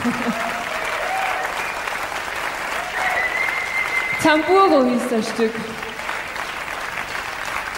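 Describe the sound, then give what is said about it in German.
Steady audience applause runs through the whole stretch, a dense patter of many hands clapping, while a man speaks briefly over it in a calm voice. “Ein lieber Applaus.”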